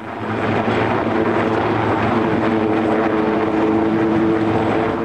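A ship-based naval helicopter from one of the frigates approaches overhead at sea, heading for a supply ship; its steady rotor and engine drone is loud and continuous, with broad rumbling noise and faint tonal hum throughout, no voices present.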